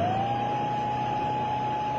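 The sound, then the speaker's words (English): A steady electronic signal tone confirming that the main gates are shut holds at one mid-high pitch for two seconds without a break. It sounds in the rain over a low, rumbling mechanical background, with no voices. “What's that? Confirmation that the gates are shut.”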